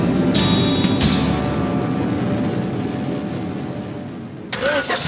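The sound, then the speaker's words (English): A compact car's engine cranks and catches, then settles into a steady, loud rumble, with a brief mechanical clatter near the end. “Knights of the Road, here's your stallion. The car for freedom.”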